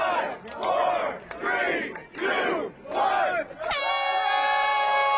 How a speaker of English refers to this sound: Crowds cheered as the racers dashed to their vessels and made their way out of Victoria Harbor.